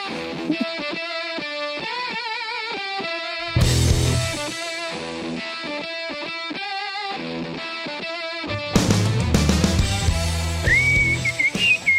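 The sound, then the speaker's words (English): Several people whistle a melody with wavering pitch in a lounge, steady over a musical backing, with heavier, distorted bursts of sound breaking in twice partway through. No one speaks. “We are just working on our whistles around here at the Element, up here in the lounge.”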